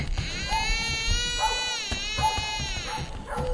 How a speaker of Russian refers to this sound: Вдруг тишину ночи нарушил крик ребенка.